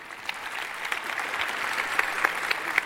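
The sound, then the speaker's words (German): An audience applauds steadily for a few seconds, a dense patter of many hands clapping with a few sharper individual claps standing out, moderate in volume and without voices. “Dafür einen Applaus.”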